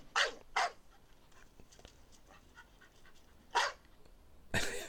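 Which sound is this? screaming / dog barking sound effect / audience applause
dog barking sound effect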